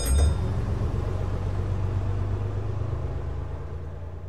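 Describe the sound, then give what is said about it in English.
A bus engine rumbles steadily, a deep constant drone with a slight rise at the start, then holding evenly for a few seconds with no voices. “Bus and coach.”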